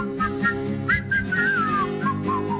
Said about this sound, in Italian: Vabbè, veniamo, fischiettiamo.